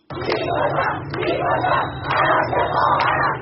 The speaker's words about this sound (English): Protesters have chanted, "Death to the dictator," and "I will kill the one who killed my sister." And that's in reference to 22-year-old Mahsa Amini.